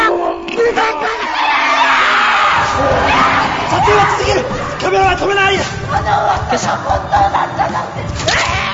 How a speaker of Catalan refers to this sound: Què són aquests crits, així per començar? Clar, és que One Cut of the Dead és una pel·lícula que és metacinema, és a dir, comença la peli i sembla que estigues en una pel·lícula de baix pressupost de zombis